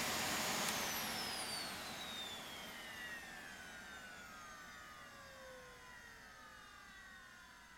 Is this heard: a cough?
no